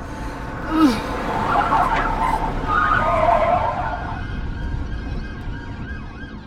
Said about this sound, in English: More sirens? No, no, no, not now! What? Someone must have reported this car as stolen.